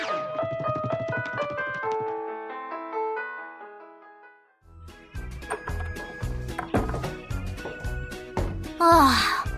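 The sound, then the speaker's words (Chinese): A garbage truck arriving to collect rubbish plays its tinkling electronic jingle, a simple melody for several seconds that fades, followed by a fuller, busier music track with a beat. No one speaks. “哎呦，垃圾车来了，地瓜，快把打包好的垃圾拿去丢。”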